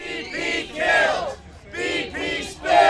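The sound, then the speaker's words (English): A crowd of a few dozen protesters demonstrating against BP chants in unison on the steps across from Jackson Square in New Orleans under a steady rain, loud voiced phrases repeating in a steady rhythm with brief pauses between each shouted line. “While BP works to contain the oil, NPR's David Shaper in New Orleans reports on demonstrations against BP in New Orleans and other cities around the country.”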